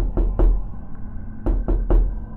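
Knocking on a wooden house door at around 11 at night: two solid raps, a short pause, then three more, fairly loud, with no voices.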